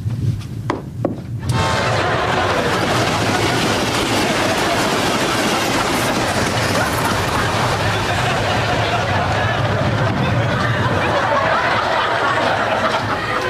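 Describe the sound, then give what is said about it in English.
A loud train roars past, a continuous heavy rumble with rattling, clattering wheels that fills the whole stretch after a brief quieter moment at the start. “A train.”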